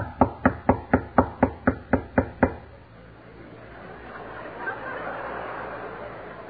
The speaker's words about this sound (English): And suppose I knocked on the door in their room.